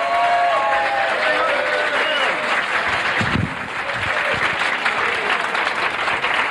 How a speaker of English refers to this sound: He's a very funny guy. Let's have a nice round of applause.